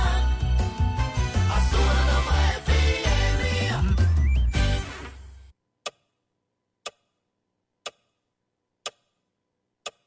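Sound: clock ticking countdown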